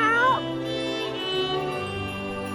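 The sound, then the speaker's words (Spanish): A cat gives a single loud, short, rising-and-falling meow right at the start, followed by a steady humming tonal background for the remaining couple of seconds. “¡También los gatos! ¡Aunque arañen!”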